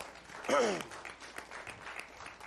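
At a church service at Calvary, a crowd breaks into a steady round of applause for a visiting minister, dense overlapping clapping at moderate loudness, with a short voiced cheer rising over it near the start.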